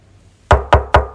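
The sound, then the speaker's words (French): Four firm knocks on a door in quick, even succession, loud, following a moment of near silence with no voices, as a girl knocks on the guidance counselor's office door for a 3 p.m. appointment. “Elle toque à la porte.”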